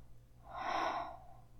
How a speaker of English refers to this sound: I gasp and shake a little bit.